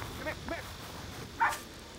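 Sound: dog barking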